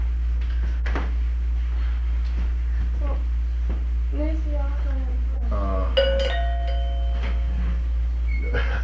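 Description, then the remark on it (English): A small bell rings once with a sharp strike, its bright tone ringing on and slowly fading. Voices talk quietly before it over a steady low hum. “That's a pretty little bell.”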